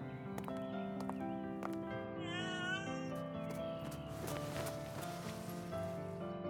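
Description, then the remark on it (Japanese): A small stray cat lets out a single drawn-out meow partway through, clear, rising over a steady background of sustained music-like tones that continue throughout. “やめなよ、そんな野良猫に構うの。”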